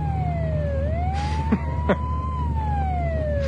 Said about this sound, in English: You know, that's the fourth ambulance in the last half hour.